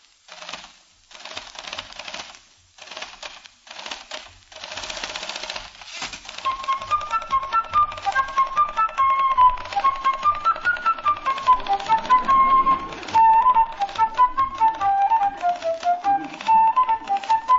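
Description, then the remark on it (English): Rapid typewriter key clatter beats out a marching drum rhythm, imitating a fife and drum corps, soon joined by a shrill, bright fife melody from a fife player beside the typist whistling over the steady clicking; fairly loud, with no talking. “his friends are always asking him to sit down at the keys and imitate a fife and drum corps on the typewriter.”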